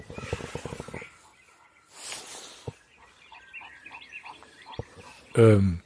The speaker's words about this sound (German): Enten? Gänse? Ja, fast. Fast. Ah, ein Igel. Na, ist ja fast wie also Enten. Nachts, wenn er seine das Fallobst nascht, dann.